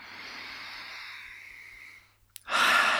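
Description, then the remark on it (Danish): A long, slow, airy inhale through the mouth, a brief pause, then a louder, forceful exhale, like a deep calming sigh, taken while gently tapping on the collarbone points. No one speaks. “Bank blidt på kravbenspunkterne, tag en dyb vejrtrækning.”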